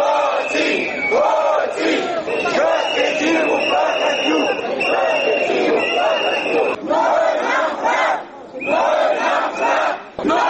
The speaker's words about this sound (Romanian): Zeci de activiști și simpatizanți ai partidului Platforma DA au pichetat președinția în semn de protest